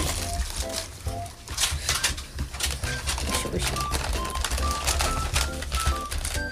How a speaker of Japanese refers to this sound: じゃあこれを1枚ずつ取ってください、うん、お皿をね配ってます。